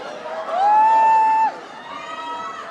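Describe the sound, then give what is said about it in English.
A few hundred wrestling fans at a wrestling ring on a Sunday cheer, boo and tease the wrestlers, with one voice rising into a long, sustained, high whoop for about a second before the general clamor of the crowd carries on. “On this particular Sunday, there are a few hundred fans cheering, booing, and teasing the wrestlers who don't always play by the rules.”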